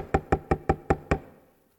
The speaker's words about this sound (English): Here's what Jesus said concerning that last church. He said, hey, I'm standing at the door knocking.